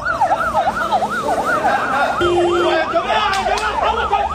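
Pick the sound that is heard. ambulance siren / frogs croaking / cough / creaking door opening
ambulance siren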